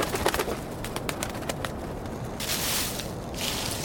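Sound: dove cooing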